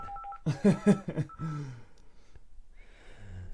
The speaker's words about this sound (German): Musst du ans Telefon gehen? Hey, lass das klingeln hier.